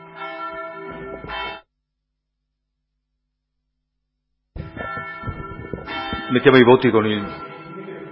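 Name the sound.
bell ringing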